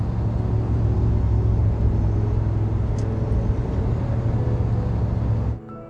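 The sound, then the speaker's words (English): A pickup truck cruises alone along a two-lane highway with dirt fields on both sides, with a steady, loud engine drone and low road rumble, constant throughout before cutting off abruptly near the end. No voices. “The pickup travels alone on a two-lane highway with dirt fields on both sides.”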